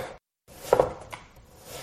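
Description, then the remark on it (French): A knife cuts lion meat into thin slices on a cutting board for a recipe: a few sharp, irregular strikes spread over about two seconds, with soft scraping between them and a brief silent gap near the start. No one speaks. “Coupez les lions en tranches fines.”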